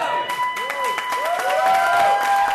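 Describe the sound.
A crowd of more than 100 people cheers and applauds as Fried walks into her election night watch party at Good Spirits, with dense, rapid clapping and rising high-pitched whoops and whistles over a steady roar of voices, staying loud for the whole stretch.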